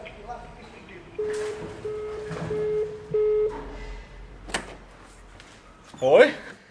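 The large red entrance door of a recording studio on the ground floor of an apartment building in Zürich West is opened by the studio owner, with a few clunks of the latch and handle, a long steady electronic tone sounding in bursts, and a louder knock or thud near the end.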